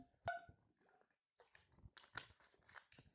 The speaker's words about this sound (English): Wow. Holy shit. I'm so glad that most of you listen, because I just deep-throated that water bottle on accident. I tend to do that sometimes.